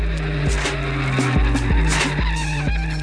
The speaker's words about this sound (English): The only vehicle that should be tearing up the streets of Saginaw is Chad's souped-up Honda Civic. Dude! Dude, my car is sick, dude!